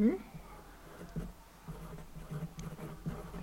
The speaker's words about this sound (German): So, und schon wieder einmal umblättern.